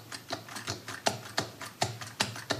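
Steady clicking of keys on an external keyboard used to type on an iPhone, about eight crisp taps at an even pace, each one short and sharp, with no voices in between.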